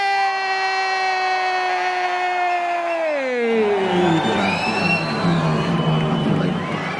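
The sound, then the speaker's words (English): A steady, buzzing tone holds and then slides downward, giving way to a loud, dense roar of a cheering crowd at a 2023 Boiler Room event in Stockholm, with whistle-like squeals riding over it. “Let me hear it one more time.”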